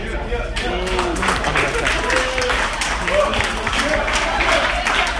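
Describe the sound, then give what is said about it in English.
An audience applauds steadily, a dense wash of many hands clapping at once, mixed with scattered cheers and voices calling out over it the whole time, in response to a comedian asking who thinks weed should be legalized. “My round of applause, how many people here think we should legalize weed?”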